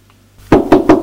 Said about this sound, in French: On a frappé à la porte. Entrez.